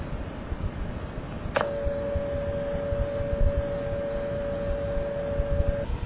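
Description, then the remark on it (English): A sharp click gives way to a steady, unwavering telephone dial tone from a GTE straight step mechanical office in Indiana, recorded September 4, 1998, at a single mid pitch, holding for about four seconds over constant background hiss before cutting off. “The following will be a dial tone from that office.”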